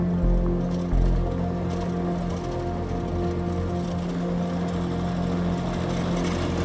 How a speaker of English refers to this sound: That's my old truck. Yeah, I was driving that for 5 years through the bush of Africa. It's well experienced.